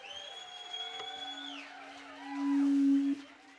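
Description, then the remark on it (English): Long tonal whale calls with rich harmonics, high notes gliding downward, over a steady low moan that swells louder near the end before cutting off abruptly. “There's whales in here. I heard them.”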